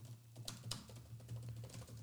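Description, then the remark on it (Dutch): Rapid, forceful typing on a computer keyboard, a stream of clacking keystrokes with a few sharper hits, over a steady low hum and no voices. “Extreem hard typen.”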